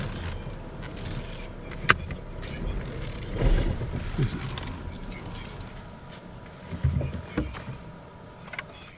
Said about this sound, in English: This is the first broadcast I did in my new Mustang. It's new to me. It's a 15 model. But this car, I like it. I bought it yesterday.